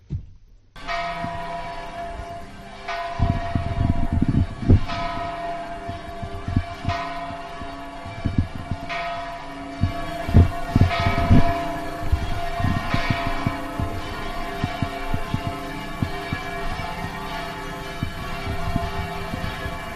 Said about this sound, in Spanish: Con el corazón encogido y el pecho aventado, comienza aquí y ahora, entre voltear de campanas catedralicias, el muñidor de COPE Ciudad Real.